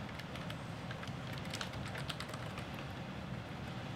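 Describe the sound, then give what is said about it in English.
Quick, irregular clicks of typing on a computer keyboard while logging in to a user account, a steady patter of keystrokes over a constant low background hum, with no voices. “Fingers going all over the keyboard here.”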